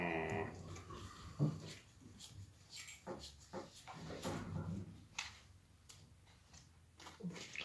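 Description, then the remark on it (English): A dog chasing cats upstairs whimpers faintly and intermittently, with short whines mixed among soft knocks and shuffling noises. No one speaks. “My dog's being an idiot upstairs.”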